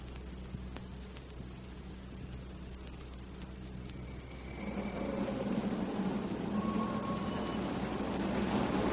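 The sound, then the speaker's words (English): A train from Bournemouth West, via Bournemouth Central, Southampton Central, Winchester and Basingstoke, rumbles steadily into Platform 7 of a station, its low engine drone growing louder and busier about halfway through, with squealing brakes and clattering wheels. No one speaks. “The train from Bournemouth West, Bournemouth Central, Southampton Central, Winchester and Basingstoke is now arriving at Platform 7.”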